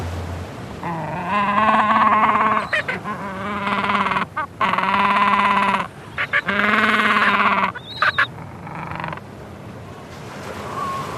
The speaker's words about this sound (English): Gentoo penguins, alarm. Group of adults disturbed by intruder. Macquarie Island, 2 minutes 10.